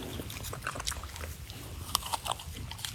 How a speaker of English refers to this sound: And another cub, Riley, munching one of the apples recently donated to the center.